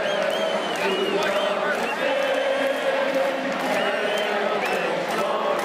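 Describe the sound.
A huge NFL stadium crowd roars and cheers fervently before a game in a steady, dense wall of sound, with rising whoops and shouts swelling over the continuous loud murmur of thousands of voices.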